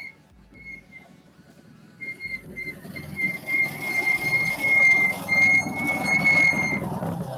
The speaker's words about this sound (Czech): Pískající brzdy.